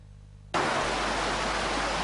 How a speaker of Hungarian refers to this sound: A dübörgő patak hangjára ébredtek hajnalban Miskolcon a Diósgyőri városrészen lakók. A homokzsákokat folyamatosan rakták, ám az áradat pár óra alatt szinte megfékezhetetlenné vált.